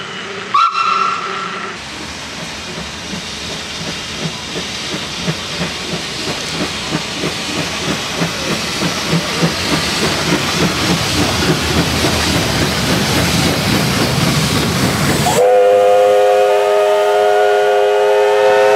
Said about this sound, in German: Und zum Ende habe ich dann auch noch ein Geräusch der Dampflok 241A65 des Dampflokdepot Full dabei. Interessant daran finde ich die zwei unterschiedlichen Pfeifen, die an der Lok verbaut wurden. Aber hört mal selber.